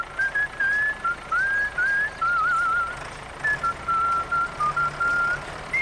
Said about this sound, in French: Toi aussi, tu pourrais siffler en travaillant.